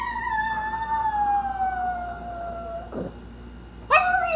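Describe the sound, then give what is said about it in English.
Reggie, a 9-pound female chihuahua, howls after her owner has left the house, in long, wavering, slowly falling cries, fairly loud, with a brief pause before a higher howl rises again. No one speaks. “Reggie is this 9-pound chihuahua, and she has a lot of feelings about everything. So, like, this is what she sounds like after I've left the house.”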